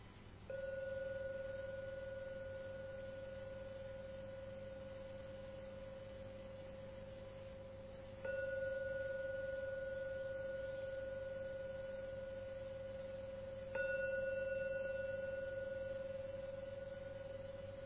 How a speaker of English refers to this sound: Ring the gong 3 times. When the gong finishes sounding for the 3rd time, it's a signal to come out from your meditation.